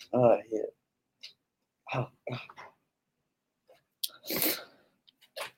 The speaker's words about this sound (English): I'm sorry. Every time I start recording, I cough. It's so stupid.